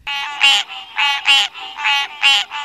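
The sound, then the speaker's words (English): A green tree frog gives harsh, nasal grunting calls in a steady repeating rhythm, loud, with each burst paired into quick grunt-grunt pulses and no talking. “The green tree frog's call is a harsh, nasal grunt-grunt sound.”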